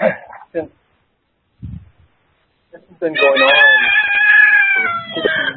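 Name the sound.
rooster crowing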